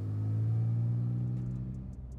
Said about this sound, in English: They hop in Nia's car, and they drive off.